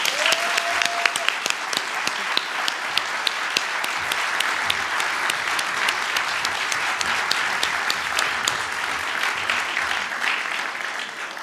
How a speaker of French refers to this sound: Et donc encore plus, je pense qu'on peut l'applaudir pour ça.